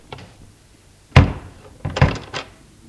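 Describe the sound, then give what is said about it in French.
A door being opened: a solid thunk of the latch and handle, followed by a few rattling, knocking bumps as it swings, with no voices. “Lorsque tout fut mis en place, la porte s'ouvrit.”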